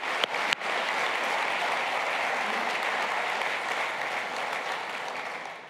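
Steady audience applause at a church service for a young woman who came up to share her story, a dense wash of many hands clapping at an even level, beginning with a few sharp claps before settling into sustained clapping.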